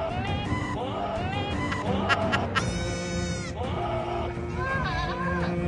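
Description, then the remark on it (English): A goat bleats loudly and repeatedly, its wavering, quavering cries following one after another over a dense, continuous tonal background with no pauses. “Oh, this is the goat's version.”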